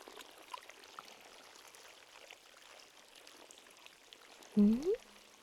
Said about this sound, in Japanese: ああ、湧き水の音のことね。この湖はね、汽水湖なのよ。湖底から真水がたくさん湧いているのよ。 なんなら流れ込んでくる塩水よりも多いくらいね。